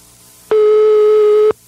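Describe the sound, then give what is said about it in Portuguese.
A telephone ringing tone heard while a call is placed: a single steady, mid-pitched electronic beep lasting about a second, loud and clear over a faint hiss, with no one talking. “Vamos ligar agora, ver se ele não desconfia, né?”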